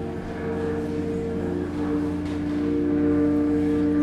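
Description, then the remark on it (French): A rubbed metal basin set into vibration sings with a steady, resonant drone, like a rubbed Tibetan singing bowl, layered overtones humming at a constant pitch and swelling slightly louder toward the end, with no voices. Such a basin can sound very strongly and be heard kilometres away. “Cette bassine, quand elle rentre en vibration, elle crée un son, un peu comme un bol tibétain qu'on vient frotter.”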